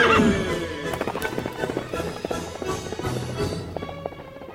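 The horse Silver whinnies loudly at the start, then rapid galloping hoofbeats pound in a steady, driving rhythm, with a low rumble underneath and no talking.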